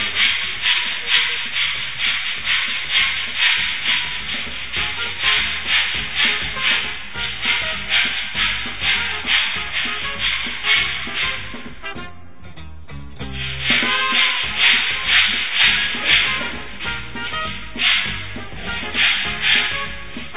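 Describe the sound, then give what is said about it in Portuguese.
A loud, harsh power saw cuts steadily in rough rhythmic pulses during a live 87 FM radio broadcast in Guaxupé, briefly easing off partway through before the grating roar picks back up. No one speaks. “Olha o barulho infernal que faz essa serra, gente.”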